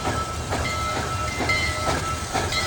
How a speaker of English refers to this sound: The engines were lightweight and powered by steam created by burning wood